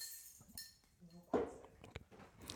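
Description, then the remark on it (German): A bottle is opened with a soft pop and hiss, followed by a few light clinks of glass against glass as people toast, with faint muffled voices in the background. “Ich mach dir auch gleich mal eins auf, ja?”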